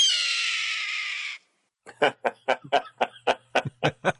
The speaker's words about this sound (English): It's a red-tailed hawk.